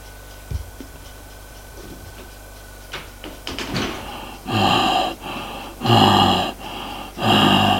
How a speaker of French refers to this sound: Elle ouvrit la porte de la chambre.